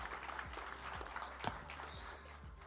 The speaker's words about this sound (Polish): Dziękujemy bardzo. Wielkie brawa. Zespół Szkół Ekonomiczno-Administracyjnych we Wrocławiu.